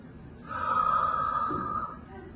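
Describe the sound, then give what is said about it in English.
A voice imitates one slow, drawn-out inhale of a dying person's slowing, labored breathing, airy with a faint whistling tone, lasting over a second. Fairly quiet, with no other sounds around it. “My mom's breathing was slowing.”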